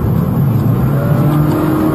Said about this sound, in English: And then we notice this, we stop, but you can hear the engine is still at full rev. Yeah, you can hear the RPMs are way up, right? And then you can't turn off the car.